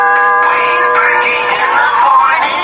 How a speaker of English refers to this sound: I pressed the doorbell and...